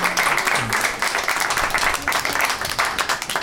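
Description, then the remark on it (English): A group of people clapping steadily, a dense and fairly loud patter of many hands that holds for a few seconds, with a faint voice or two underneath. “I don't know why clapping.”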